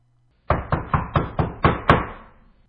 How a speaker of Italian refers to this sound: fu bussato alla porta